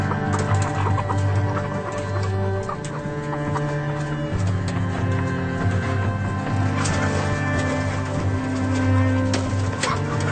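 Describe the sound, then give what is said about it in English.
A dense, unbroken chorus of many egg-laying hens in battery cages clucking and squawking at once, steady and loud throughout, layered over a constant low mechanical hum in a large poultry facility. “in cages with birds that are still producing eggs for human consumption.”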